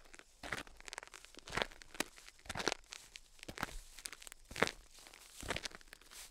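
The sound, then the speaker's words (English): Crunchy footsteps on a Thanksgiving walk through a quiet small town with no traffic, at a steady, unhurried pace, each step a brittle crackling crunch, roughly one or two per second, with no talking. “The small town we live in is entirely quiet, no traffic, hardly any noise, and we're just walking around.”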